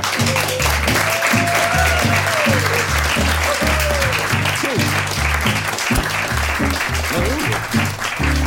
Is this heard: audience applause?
yes